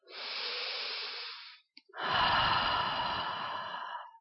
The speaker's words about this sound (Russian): Сделали глубокий вдох-выдох сердцем.